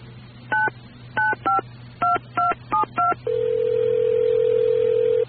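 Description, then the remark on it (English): Seven quick touch-tone beeps as a phone number is dialed for a call on the Dead Dog Cafe Comedy Hour, followed by a long, steady tone. No one speaks, and a low hum runs underneath. “you want to dial the number?”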